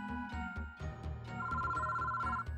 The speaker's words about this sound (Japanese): おい、電話が鳴ってるぞ。さっき線を引っこ抜いたんじゃって。